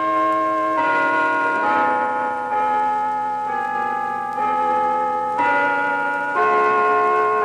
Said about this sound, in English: They rang out the chimes in Philadelphia.